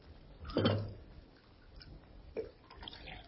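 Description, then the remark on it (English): Coffee is poured into a cup by Alpha, a machine built with silver wire and electric motors: a short clatter and splash near the start, then a soft, quiet trickle of liquid that continues faintly with no one speaking. “Alpha poured coffee.”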